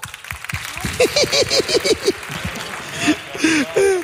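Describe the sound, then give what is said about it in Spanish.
A crowd claps and cheers for about four seconds as an audience vote by applause, with rhythmic whoops and shouted voices rising over a steady wash of applause that swells near the end. “Por aplausos, ¿ok?”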